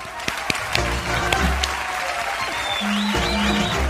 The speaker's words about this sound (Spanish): Bueno, aplausos. A ver, aplausos.